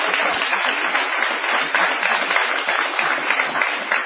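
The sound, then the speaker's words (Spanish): A studio audience at the program Caras y Caretas applauds Gillespie steadily, a dense wash of many hands clapping at once, loud and sustained for the full few seconds with no voices standing out. “Démosle ahora nuestro aplauso a Gillespie.”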